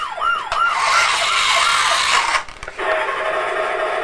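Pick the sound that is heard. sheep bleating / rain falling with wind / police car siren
police car siren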